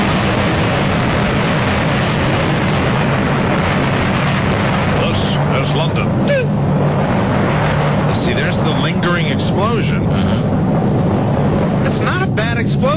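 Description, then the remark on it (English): A nuclear explosion sound effect from a sound effects library: a loud, sustained low roar and rumble that churns steadily for the whole stretch, with a muffled, lo-fi quality and muffled voices surfacing in the later part. “Sound of a nuclear explosion.”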